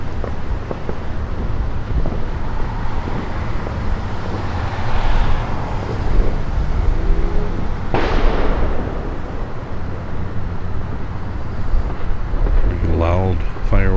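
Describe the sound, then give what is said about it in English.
Fireworks bang and crackle during a thunderstorm and rainstorm, one sharp burst standing out, over a steady wash of rain and rumbling background noise, with a brief voice-like sound near the end; recorded on a Zoom H1 recorder with its internal stereo mics and a windscreen. “Come out and record fireworks, get into a thunderstorm, rainstorm, and people are still letting off fireworks all the way through it.”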